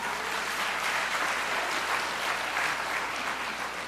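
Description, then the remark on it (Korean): A roomful of people applauding steadily, a dense, even patter of many hands clapping together at moderate volume throughout, with no voices standing out. “어, 박수 치세요.”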